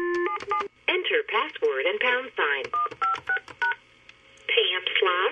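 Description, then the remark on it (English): Touch-tone phone keys beep in quick bursts of dialing, clear, alternating with a woman's voice talking between the tones, as she uses the phone at her desk in a narrow librarian's office at the back of a high school library in Union, South Carolina. “picks up her phone at her desk cramped inside the narrow librarian's office.”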